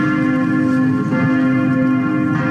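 Church bells of the Temple of Saint Sava at Vračar in Belgrade ring together on a Thursday afternoon, announcing the election of the new head of the Serbian Orthodox Church, in a dense, continuous peal, their overlapping tones sustaining steadily at a loud, even level throughout, with no voices.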